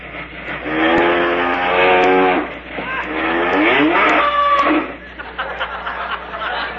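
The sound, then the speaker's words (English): A voice imitates a milk train passing by, with loud, wavering whistle-like tones and rumbling chugs that swell, briefly dip, then surge again before trailing off into a rougher, fading rattle. “Sounds like the milk train, don't it?”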